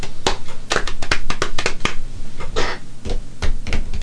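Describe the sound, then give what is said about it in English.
Hands slap out a quick, uneven drumming rhythm on someone's legs, a run of sharp, loud smacks with brief gaps between clusters and no voices over them. “Your legs are not drums. And your hands are not drum sticks.”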